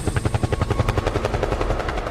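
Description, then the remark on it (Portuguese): A helicopter's rotor chops in a fast, steady beat of loud, thudding pulses, with a whining engine underneath and no voices. “Dentro do helicóptero.”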